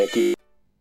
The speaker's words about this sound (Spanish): Bueno, de repente hemos perdido la conexión, ha sonado un teléfono fijo por ahí, no sé dónde se encontraba yo, pero le ha sonado un teléfono fijo y hemos perdido la conexión.